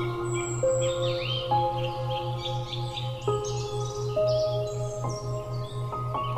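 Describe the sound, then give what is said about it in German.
Birds chirp and twitter continuously, their quick calls overlapping over a soft, sustained musical drone with a gently pulsing low tone. “Du hörst den Vögeln zu, wie sie dir ein sanftes Schlaflied singen.”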